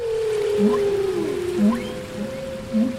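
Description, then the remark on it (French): Whale or orca calls: a long, steady tonal moan with a downward-gliding whistle and short repeated pulsed grunts, heard alone over a faint watery hiss. “Un peu comme quand vous regardez un reportage sur les orques, les baleines ou les phoques.”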